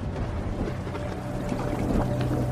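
Rain pours steadily into a waiting room as water rises, a continuous rushing and splashing wash of water that swells slightly louder toward the end, with no voices.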